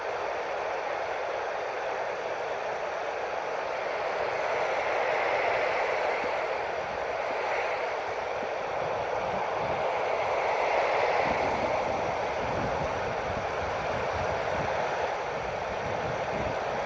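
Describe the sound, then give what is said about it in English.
Steady static from a handheld radio hisses continuously while gusty wind rumbles and buffets underneath, growing rougher in the second half, as the operator turns around trying to find a signal. No one speaks; the noise stays loud and even throughout. “Hopefully the wind and the static together isn't too bad.”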